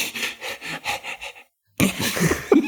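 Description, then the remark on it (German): A person imitates a dog panting, showing how dogs transpire, with about seven quick, rhythmic, breathy huffs, then falls silent briefly before a voice starts talking. “Und übers Hecheln, genau.”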